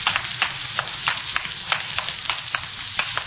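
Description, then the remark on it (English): Water running inside a building: a steady, bright hissing rush with frequent short splashy spurts rising out of it at a quick, uneven rhythm. No voices are heard. “You hear water running? Sounds like it's coming from inside.”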